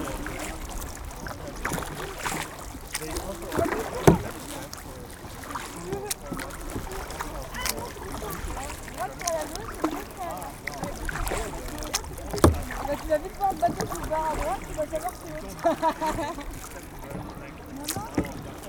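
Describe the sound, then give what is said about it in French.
Paddles dip and splash steadily as a canoe or kayak moves across the water, with gurgling wash and occasional wind buffeting, and some voices faintly in the background. “Ces embarcations sont propulsées à l'aide de rames appelées pagaies.”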